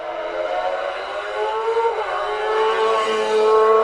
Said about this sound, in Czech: Méně tradiční je pak třeba nahrávka zvuku aut slavného závodu Ústecká 21.